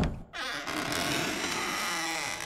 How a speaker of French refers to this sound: « Entrez !» dit l'évêque. La porte s'ouvre.